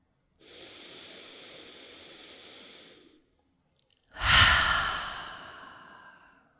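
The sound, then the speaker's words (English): A slow, steady inhale lasting about three seconds, a brief pause, then a louder, fuller sighing exhale that trails off. No talking, just a long deep breath. “So let's take another long, long, long deep breath into that space inside of yourself where you are just the way you are, where you don't have to be happier and you also don't have to be any less happy than you are right now.”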